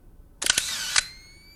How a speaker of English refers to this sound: His flash briefly illuminates the corridor leading to a bedroom.